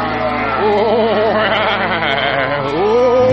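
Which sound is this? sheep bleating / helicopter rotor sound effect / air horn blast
sheep bleating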